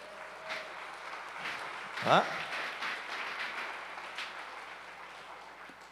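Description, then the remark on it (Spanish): A crowd applauds a group of young men in a steady, dense wash of clapping that lasts throughout, while a voice briefly calls out over it near the middle. “Le un aplauso a estos muchachos.”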